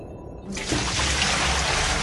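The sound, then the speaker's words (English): After a brief quiet moment, cold, rank water suddenly starts pouring and splashing over the head of a person in a cage, a steady, fairly loud rush that continues without a break to the end. “Cold, rank water hits Nora in the face. It pours over the top of her head.”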